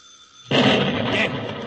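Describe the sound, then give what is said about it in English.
After a brief quiet moment, a sudden loud explosion bursts out as a place is blown up when its bell is rung, rolling into a sustained, broad roaring rumble that holds steady until the end. “We ring the bell. We blow the place up.”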